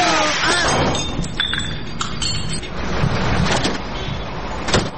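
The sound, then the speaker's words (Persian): A taxi car drives up, its engine noise steady and fairly loud with mechanical rattling and brief clinks, a whining tone rising early and a sharp knock near the end. “اوه، این تاکسی از کجا پاید؟”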